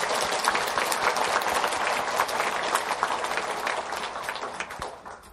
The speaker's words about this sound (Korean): 하나님께 우리 먼저 감사와 찬송의 박수를 올려드리시겠습니다. 그리고 우리가 이렇게 은혜스럽게 예배를 드릴 수 있도록 보이는 곳에서 또 보이지 않는 곳에서 마음을 다해 수고해 주신 여러 봉사자들에게도 우리 감사의 박수를 드릴까요?